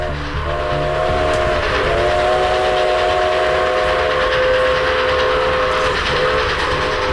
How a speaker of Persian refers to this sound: ریزعلی می‌دانست که تا چند دقیقه دیگر قطار مسافربری به آنجا خواهد رسید. با خود اندیشید که اگر قطار با توده‌های سنگ برخورد کند، واژگون خواهد شد.